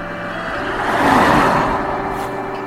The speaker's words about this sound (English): Dark red, could be a Renault, you know. Might play that. Oh, stop! It stopped outside the house.